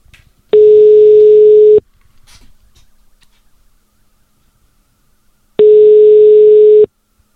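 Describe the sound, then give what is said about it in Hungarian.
A telephone ringback tone plays while a call connects to the second winner of a prize draw: two steady, mid-pitched buzzing tones, each about a second long, separated by a few seconds of near silence with faint clicks. “Hívjuk a második nyertesünket”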